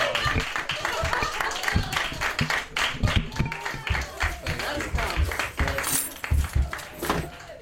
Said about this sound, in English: The saddest moment, the applause.